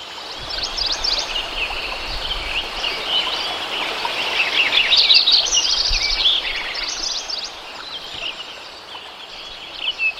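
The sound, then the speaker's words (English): A dense outdoor chorus fills Lincoln Meadow in summer 1988, with many overlapping chirps and trills from woodpeckers, mountain quail, chirping sparrows and Lincoln sparrows alongside a steady hum of insects and frogs, continuous. “Here's some sound you took in the summer of 1988, where you can hear woodpeckers and mountain quail and chirping sparrows and Lincoln sparrows, frogs and insects.”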